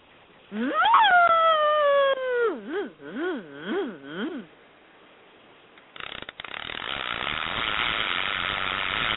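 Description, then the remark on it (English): A voice imitates the screaming drag of a big offshore surf-rod fishing reel: a high rising wail that wobbles up and down, then after a pause, a loud, harsh, steady buzzing rasp that keeps going. “do your screaming reel”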